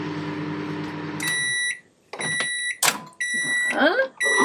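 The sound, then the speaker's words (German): A microwave oven hums steadily while heating something for about a minute, then gives a series of high electronic beeps, followed by the clatter of its door opening and handling noises. “Die wird jetzt erhitzt. Sag mal so eine Minute. Die piept auch so schön.”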